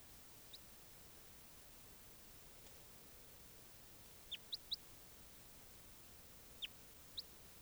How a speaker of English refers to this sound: There's birds there.